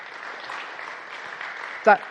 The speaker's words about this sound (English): That's as good as it gets for restrained British people. That's our euphoria gene coming right out there. That's it. If I get applause like that any time, I'm feeling like I'm really up there.